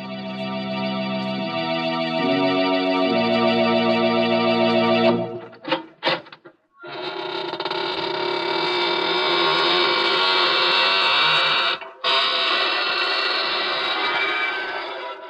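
Sustained organ-like chords give way to the loud, drawn-out creaking door of the Inner Sanctum Mysteries show, a grinding, rasping groan that stutters briefly, then stretches on for several seconds with no voices.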